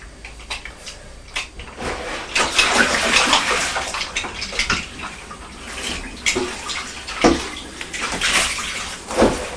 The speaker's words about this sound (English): Just running some water in the washing up bowl so I can do some washing up.